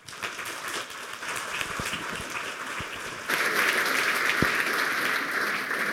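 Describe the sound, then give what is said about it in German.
An audience at a talk claps steadily throughout to welcome the next speaker, a dense crackle of many hands that swells noticeably louder about halfway through and stays full until the end, with no talking over it. “Bitte einen kleinen Applaus für Florian.”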